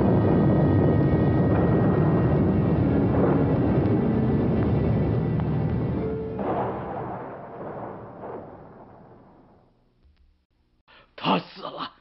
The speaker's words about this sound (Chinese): 突然间雷声大作，地动山摇，人们都扑倒在地上，万分恐惧。